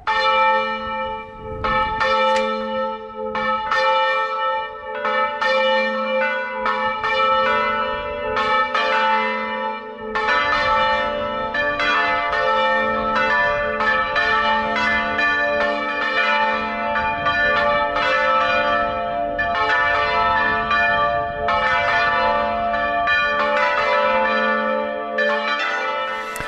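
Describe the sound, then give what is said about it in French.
Several large church bells of the Saint-Rémy church in Lagarde, Lauragais, in the south-west, swing in full rotation (volée tournante, not a carillon) and ring together in a dense, continuous peal, overlapping strikes with long ringing harmonics filling the air, loud, with no voices throughout. “Alors c'est pas vraiment le carillon, c'est les cloches en volée tournante.”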